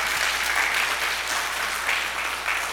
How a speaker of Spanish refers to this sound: ¿Por qué no le damos un fuerte aplauso, pero al Señor?